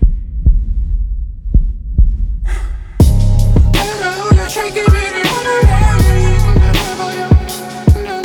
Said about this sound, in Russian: Голосовые сообщения пусты, а я записывал тебе сердцебиение.